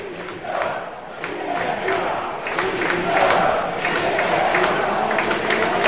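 A large stadium crowd roars and shouts continuously, with scattered clapping mixed into the dense, steady wall of noise that swells slightly toward the end.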